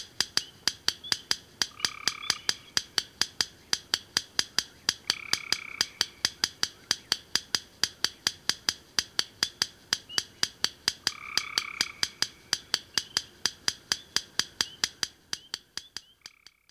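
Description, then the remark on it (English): Under pale moonlight in an extensive wet meadow, a yellow rail hidden among the sedges ticks incessantly in a rapid, steady series of loud, dry clicks, while gray tree frogs, spring peepers and a whippoorwill call in the background with a few brief higher trills. “There, hidden among the sedges, a yellow rail vocalizes incessantly, while gray tree frog, spring peeper, and whippoorwill call in the background.”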